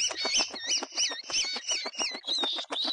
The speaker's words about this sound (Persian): چرا انقدر جوجه جیغ جیغ میکنه؟ غذا بهش دادی؟ آره خاله کلاغه، تو تا کرم گنده بهش دادم، اما نمیدونم چرا بازم جیغ میکشه.